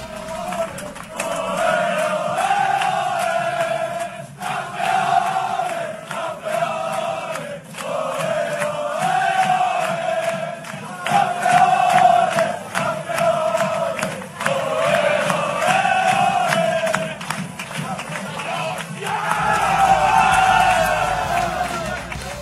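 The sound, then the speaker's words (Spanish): A huge street crowd at a parade in Barcelona cheers and chants for the Barça men's and women's football teams celebrating their league titles, a dense, continuous roar with rising and falling bursts of shouting and sung chants that stay loud throughout. “Es impresionante la cantidad de gente que ha salido a las calles para pues vitorear a los equipos, tanto varonil como femenil del Barça, que, insisto, pues están festejando así la conquista de su respectivo título.”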